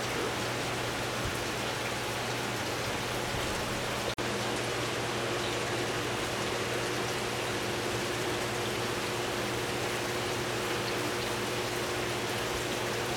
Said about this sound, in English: adjusting the flow there to try to give the eggs as much oxygen and water flowing over them so that they have enough oxygen to develop properly.